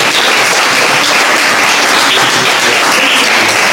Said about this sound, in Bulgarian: Виж как им хареса тук вече, получи аплодисментите. Пляскайте.